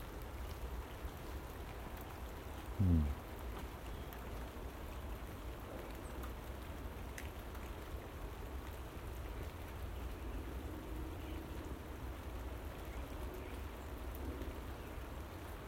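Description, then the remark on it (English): Steady rain from rain clouds patters outdoors on the 1st of December in a continuous, even hiss, with one brief low thump early on. No voices are heard, just the constant wash of falling drops. “But they reckon if it chills down here later in the day with these rain clouds, that we could get some snow.”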